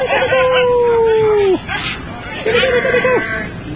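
A dog named Jezebel, an indoor dog, lets out two drawn-out howls, a long steady wail that dips at the end, then a shorter one after a pause, over a murmur of background chatter.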